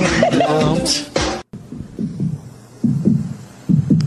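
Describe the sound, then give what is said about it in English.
A song intro opens on a deep, throbbing beat in paired thumps like a heartbeat, repeating steadily after a brief stretch of talking at the start. “Kind of like a heartbeat instead of a drum beat, but you know.”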